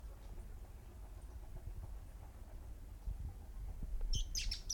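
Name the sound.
birds chirping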